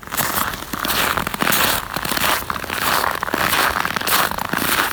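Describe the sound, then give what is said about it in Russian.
Crackling of hard frost at minus 20 degrees in mid-November in Perm: a dense, continuous mass of sharp, crisp snaps and crunches, loud and steady for the whole stretch, with no voices. “Так звучит трескучий мороз.”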